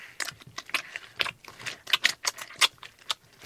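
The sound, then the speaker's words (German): Wet, squelching smacks and slurps repeat in an uneven rhythm as a hand squeezes melon flesh, the fingers closing into a fist and opening again, creating the sound of a hungry wolf lapping and chewing. No voices. “Es entsteht das Geräusch eines schlabbernden und schmatzenden hungrigen Wolfes.”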